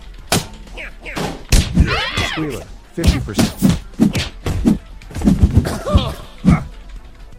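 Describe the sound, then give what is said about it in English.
Video game punch impacts land as a string of short, punchy thuds at an irregular pace, fairly loud, mixed with a man speaking over them; the punches are triggered by pressing the Enter key. “I can punch 50%. With enter.”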